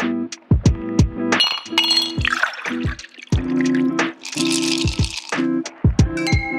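glasses clinking

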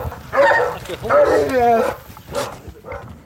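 great Dane dog barking

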